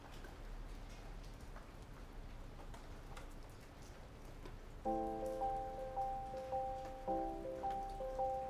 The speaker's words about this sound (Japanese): 朝、雨が降っていて、部屋はいつもよりだいぶ薄暗かった。